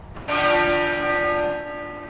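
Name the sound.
tolling church bell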